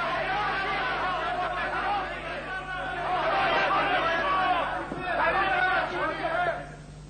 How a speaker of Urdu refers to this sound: کیا بات ہے، یہ شور شرابہ کس لیے ہو رہا ہے؟